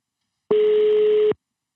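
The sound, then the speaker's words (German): A single steady, mid-pitched telephone ringing tone sounds once on a call for just under a second, then cuts off into silence. Nobody speaks. “Ja, es klingelt. Es klingelt immer.”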